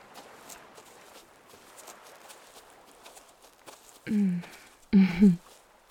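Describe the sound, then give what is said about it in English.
Soft, steady footsteps crunch along outdoors at night near the ocean at a relaxed walking pace over a faint breezy background, then a couple of short vocal sounds break in near the end. “Do you maybe want to walk with me?”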